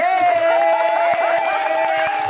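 applause

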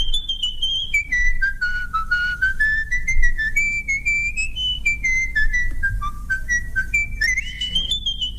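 person whistling a tune

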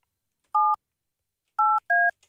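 telephone number being dialed

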